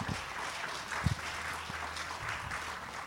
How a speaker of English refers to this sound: Okay, how about another round of applause for the Kuhu O Home O Hawaii dancers?